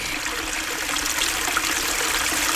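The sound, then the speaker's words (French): A steady babble of stream water flowing over stones, continuous, with a bright trickling texture and no voices. “Comme le coq laissa les grenouilles et les tortues aller leur chemin, ils virent cinq poissons qui nageaient dans un ruisseau.”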